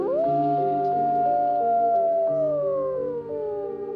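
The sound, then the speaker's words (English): Gray wolves howl together in long, sustained, overlapping tones, one voice sliding slowly downward while others hold lower pitches, continuous and fairly loud with no talking. “So this is where the wolves come in.”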